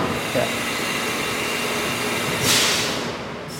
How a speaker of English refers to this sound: The machine looks like a giant metal booth with two small sliding glass doors. Inside, small hoses spray coolant as the machine whittles a gun stock down to the precise size.